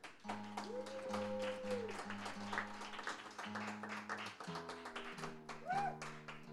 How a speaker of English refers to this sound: We're really happy to see you all here, and it's really great to have a good crowd and people listening to original independent music. So give yourselves a hand for supporting.